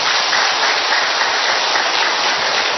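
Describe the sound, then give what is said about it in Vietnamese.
A large crowd claps loudly and steadily as a big round of applause of thanks, a dense, continuous wash of applause that holds at full strength for about three seconds with no voices over it. “Tạ ơn Chúa và cảm ơn anh chị em bằng một tràng pháo tay thật lớn.”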